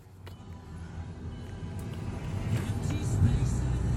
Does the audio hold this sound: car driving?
yes